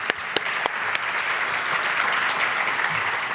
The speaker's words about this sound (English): We need to clap that.